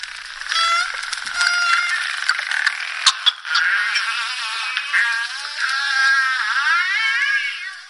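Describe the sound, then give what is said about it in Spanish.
Two bottlenose dolphins vocalizing underwater, recorded while feeding at nets, one of them mainly emitting pulsed sounds: rapid buzzing pulse trains and sharp clicks mixed with rising and falling whistles, continuous and fairly loud for several seconds, with no talking. “unos sonidos de delfines que me gustaría que escucharan nuestros oyentes con nosotros y que usted ahora nos interprete, nos cuente qué está pasando ahí.”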